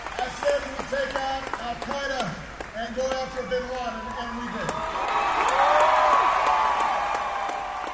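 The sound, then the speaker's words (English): A man speaks through a loudspeaker over scattered claps, then a crowd of about 2,800 people at a presidential rally in Iowa erupts into loud, sustained cheering and applause as the president speaks about overseas troops, tax reform and Medicare, swelling and holding to the end. “2,800 people listen and erupt in cheers as the president touches on overseas troops and tax reform and Medicare.”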